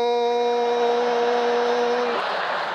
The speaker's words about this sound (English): And me and my brother figured out when Chicago streetlights come on, they click and make a humming sound. Click, hum.